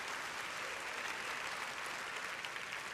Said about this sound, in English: We want to honor you. Give them another big clap. Can you do that? Right? Many up on the gallery as well.